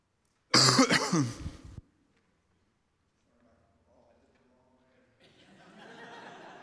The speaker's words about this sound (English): And everyone watching at home, sorry, I coughed into your phone or TV or wherever you were.